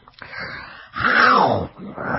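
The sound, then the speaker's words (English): A human voice makes low, rumbling growls and groans, with a louder, drawn-out swell in the middle: a person growling with enjoyment while eating red meat. “I make noise when I eat red meat.”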